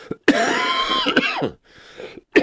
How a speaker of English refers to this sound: Excuse me, didn't get my hand over to the cough button in time. I apologize.